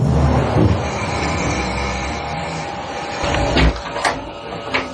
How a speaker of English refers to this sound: You're going to hear the closet door open